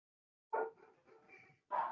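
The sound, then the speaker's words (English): Faint dogs barking: two short, sharp barks about a second apart, with softer yelping sounds in between, heard alone. They are the speaker's own dogs. “Besides my dogs, going once, twice, three times.”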